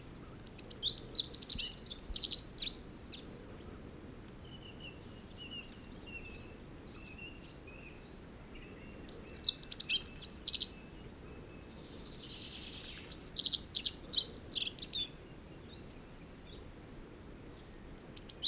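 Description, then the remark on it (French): Short bursts of high, thin rock bunting song come from a distance, repeating every few seconds over a soft, quiet outdoor background with no voices, recorded on 12 March below the Puy mountain, above the Chandivoie. “Rencontre avec le bruyant fou. Tout d'abord, l'oiseau est assez éloigné dans une ambiance générale.”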